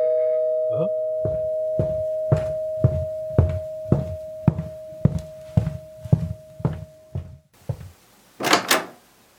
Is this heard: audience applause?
no